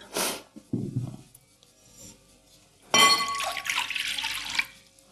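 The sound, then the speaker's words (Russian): A glass of liquid is poured into a container while making a spiced cake, a steady splashing stream lasting a couple of seconds with faint glassy clinks, preceded by a few short knocks and rustles of handling. “К этой части воды или жидкости мы добавляем половину части масла растительного.”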